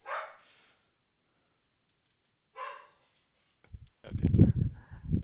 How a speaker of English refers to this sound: Oh, sorry, that's my dog. No worries. We have agents with babies screaming in the background. We can handle the dog.